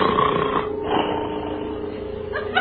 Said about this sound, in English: Slowly, inch by inch, the door creaks open.